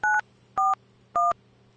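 Three short, evenly spaced telephone keypad beeps as a phone number is dialed, each a crisp dual-tone chirp about a quarter second long, separated by brief pauses over a faint low hum, with no talking.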